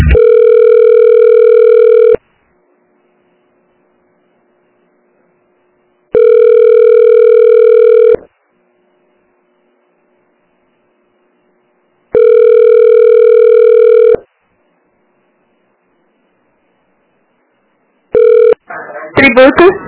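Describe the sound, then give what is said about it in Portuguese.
Telephone line tones as a call to a municipal city hall is transferred to the tax manager: a steady, fairly loud ringing tone sounds for about two seconds, repeats every few seconds with silence between, then cuts short as a voice briefly answers. “É esse aí mesmo. Ah, é? É, eu vou te transferir, tá?”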